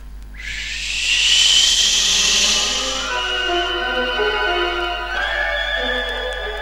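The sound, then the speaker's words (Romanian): A forceful, sustained whoosh of fire blown from a piglet's nostrils in two streams, a loud hissing roar with a rising whistle-like tone, fading into a steady layered humming drone. No one speaks. “Suflând cu putere, din nările purcelului au pornit două suluri de foc, de la bordeiul moșneagului și până la palatul împăratului.”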